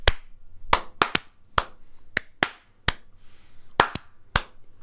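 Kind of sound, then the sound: human body sound, slow sarcastic hand clapping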